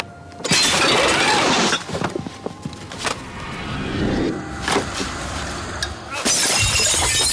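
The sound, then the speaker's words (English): Glass wine bottles smash loudly several times in quick succession, each crash followed by scattering, tinkling shards, with a dense clatter of breaking glass between the bigger impacts. “There was one which had to do with an extremely objectionable wine buff who met his end by being pinioned to his own lawn by croquet hoops and being smashed to death by bottles of his favourite Lafitte fired from a trebuchet.”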